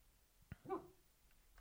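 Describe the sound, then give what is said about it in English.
A dog lets out a single soft, muffled woof in its sleep, brief and fairly quiet, just after a faint click, while lying underneath something after a morning run and reacting to a noise; hushed surroundings, no talking. “Yeah, he did our run this morning, and he's sitting underneath sleeping, and hears a noise, and he barks.”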